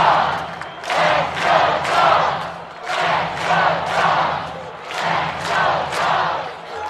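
A baseball crowd in Charleston chants "Let's Go Dogs" in steady rhythmic bursts, roughly one every second, loud and broad with many voices, a low steady hum underneath.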